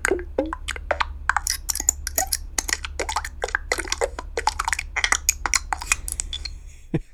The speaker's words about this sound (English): I create a bunch of button sounds. These are would-be buttons for a Yahoo widget.